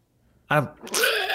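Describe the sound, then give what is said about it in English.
A short voiced burst followed by a buzzy, spluttering raspberry: someone imitating a fart with their mouth, fairly loud, lasting about a second with no speech. “Yeah, that's a fart noise.”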